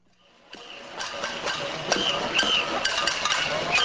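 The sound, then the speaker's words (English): A dense, continuous din of metal clanging as soup spoons and ladles bang on pots and pans in a street protest in Caracas, Venezuela, with sharp ringing strikes rising out of a steady clatter after a brief quiet start. “For 10 days now, this ear-splitting sound has been tormenting residents of the capital. Soup spoons and ladles smashing against pots and pans in an all-too-familiar form of protest.”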